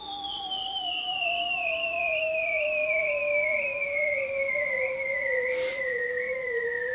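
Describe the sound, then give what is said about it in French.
A bearded seal's long, unbroken trill glides slowly downward in pitch for the whole stretch, a steady warbling whistle with fainter harmonics over a low hiss, with one brief burst of noise near the end. “Et pourtant, il est émis par un animal, précisément le phoque barbu, ainsi nommé à cause de ses petites moustaches.”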